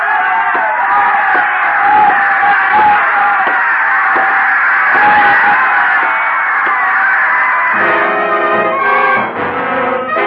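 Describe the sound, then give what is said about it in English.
A large crowd in an arena roars and screams continuously at full volume, a dense wall of voices that swells and surges, with sustained tonal shouting emerging near the end. “The crowd was screaming for the kill as I walked out.”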